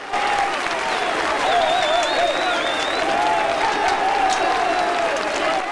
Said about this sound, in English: The band are ecstatic, punching into the air, cheering and hugging one another.